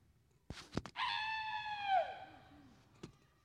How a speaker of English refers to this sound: I scream. So loud and so hard, I flip the canoe over.